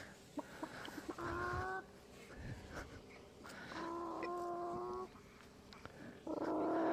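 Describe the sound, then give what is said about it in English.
A chicken on a farm calls out in a few drawn-out, nasal squawks with short pauses between, against a quiet outdoor background with faint scattered clicks and rustles; no one speaks. “A chicken.”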